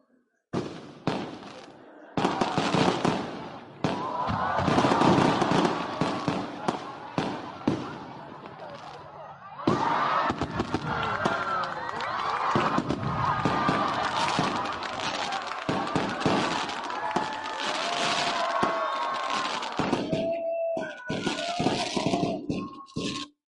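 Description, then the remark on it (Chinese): The Vancouver fireworks show in full swing: repeated booms and crackling bursts, some in quick succession, with a crowd murmuring and cheering throughout at a steady, fairly loud level. “因为疫情咧嘅缘故，停办咗2年嘅温哥华烟花汇演咧，咁就喺上个月嘅23号重新开始复办啦。”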